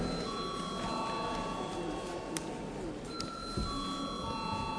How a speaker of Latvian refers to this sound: Deputāti prasa balsojumu. Lūdzu zvanu.